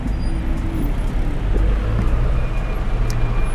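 Steady traffic rumble heard from inside a taxi in heavy traffic in Kenya's CBD, in the run-up to the 2022 Kenyan presidential elections. A dense low engine drone with passing vehicle noise and faint higher hisses, continuous and fairly loud with no talking.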